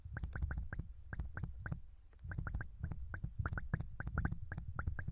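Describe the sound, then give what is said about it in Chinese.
Fizzing, bubbling hydrogen peroxide ear drops, used to clean an ear, crackle in quick, irregular little pops over a low, soft gurgle, steady and fairly loud throughout, with no one speaking. “要开始用双氧水清理耳朵了，因为你的耳朵有一些小伤口，所以可能有微微的冒泡的感觉。”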